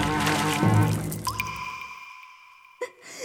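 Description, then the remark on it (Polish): A loud splash of a person jumping into a well and landing in water at the bottom, with a churning wash that settles into faint ringing drips, then one more small plop near the end. “Na dnie pojawiła się woda i nic mi się nie stało.”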